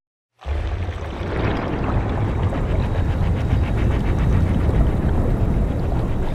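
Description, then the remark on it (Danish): A dense underwater ambience fades in after a brief silence, with a deep steady rumble and murky water sloshing and gurgling around, heard inside a submarine hanging in the sea and looking down at the seabed. No voices. “Hvad er det for et landskab, vi ser nu her i vores ubåd, hvor vi hænger i havet og kigger ned på bunden?”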